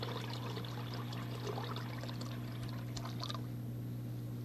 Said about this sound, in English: watch it go down. There go the water and the bubbles. Down that tiny drain. There.